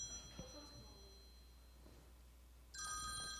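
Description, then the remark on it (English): After a stretch of quiet hum, an old-fashioned telephone bell suddenly starts ringing, a loud, continuous metallic jangle that carries on to the end. “Do you hear that? That's the way the phones used to sound.”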